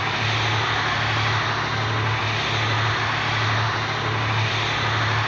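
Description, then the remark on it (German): A helicopter drones steadily overhead, its loud, continuous engine roar carrying a low, rhythmic rotor thrum throughout, with no voices. “Und da ist unser Hubschrauber.”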